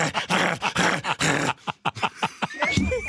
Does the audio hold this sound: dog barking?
yes